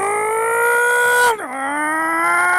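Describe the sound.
A radio producer mimics a revving car engine with a loud, buzzy sustained tone that climbs slowly in pitch, dips sharply for a moment, then rises steadily again.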